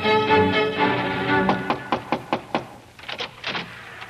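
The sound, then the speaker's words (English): Sustained music gives way to a firm, evenly spaced series of about six knocks on a lighthouse door, followed by a softer, quicker cluster of raps. “A few weeks later, while you were down playing on the shore, there was a knock at the lighthouse door.”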